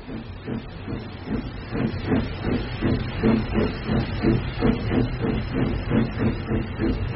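A steam locomotive chuffs steadily in a quick, regular rhythm of hissing puffs over a low rumble, sounding close and fairly loud as it gets under way.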